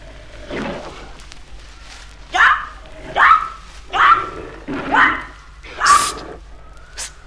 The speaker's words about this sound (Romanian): Ai auzit? Asta e o panteră.